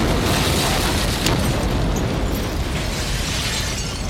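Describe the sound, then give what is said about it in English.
A massive car bomb blast in a town: a deep, sustained roar of explosion filling the whole clip as the car bursts into flames, with heavy low rumble and crackling debris throughout, loud and unbroken, no voices. “A concussion rips through the town as the car explodes into flames.”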